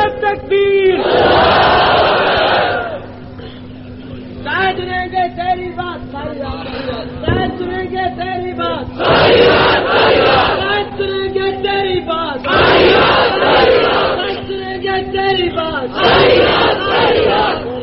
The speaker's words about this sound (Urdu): میں یہ نہیں چاہتا کہ آپ نعرے زیادہ لگائیں، آپ میری بات کا جواب تو دیں.